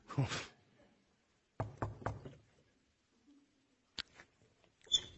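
Sharp knocks on a house door while going door to door inviting people to church: a quick burst of three raps, a pause, then a couple more scattered taps, fairly loud in an otherwise quiet space.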